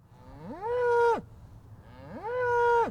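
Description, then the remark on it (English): Two long, loud moos from cattle at the Turnkey Cattle Company ranch, which raises calves for beef on Colorado's northeastern plains outside Greeley, each rising and holding a steady droning tone before dropping off, separated by a brief pause with faint background noise. “The ranch raises calves for local all-natural beef.”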